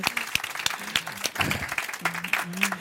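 An audience claps steadily for the woman who organises the event and its invitations, a dense patter of many hands with sharper individual claps poking through, while a few voices murmur and call out faintly underneath.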